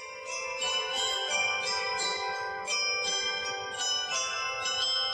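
Church bells ring out a pastorale for bells, from a CD by the bell-ringing school of Roncobello, a village in the Alta Val Brembana: several tuned bells struck in a steady overlapping sequence, their bright tones and long shimmering overtones blending continuously at a strong, even level.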